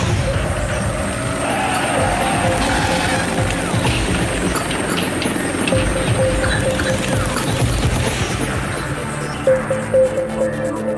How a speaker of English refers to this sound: What is it? Helicopter. What? Where?